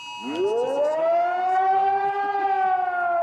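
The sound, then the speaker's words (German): A civil defense warning siren in Germany sounds on the official Warning Day (Warntag) on a Thursday morning, winding up from a low growl into a loud, steady wail that holds its pitch, with no voices over it. “als am Donnerstagvormittag alle Alarmsirenen schrillten.”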